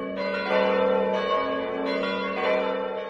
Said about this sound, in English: What happens just right before the race is very special, because at the starting line, there's an unreal silence. And then we start to hear the bells from the town hall.